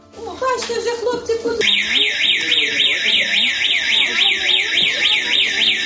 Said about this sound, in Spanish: Por eso, en el primer día, lo que han hecho es practicar un protocolo en caso de que suene la alarma antiaérea.